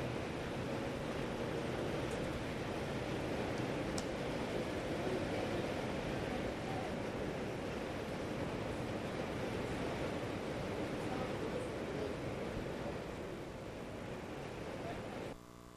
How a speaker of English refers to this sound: And it's just rain, by the way. It's not hail.